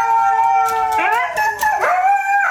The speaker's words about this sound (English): And this poor woman even uses her grown-up mean mom voice, and the Huskies are still complaining.